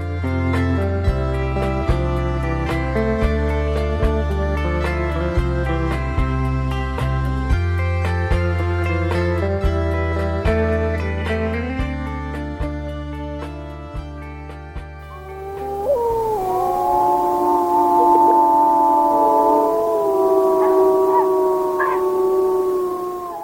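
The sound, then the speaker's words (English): A pack of wolves howls together in the evening near an elk kill at Soda Butte in Yellowstone National Park, several long rising and falling voices overlapping in a sustained chorus. The howling follows a stretch of steady piano-like music and carries on to the end. “The sound there of a pack of wolves howling during the evening while near an elk kill at Soda Butte in Yellowstone National Park.”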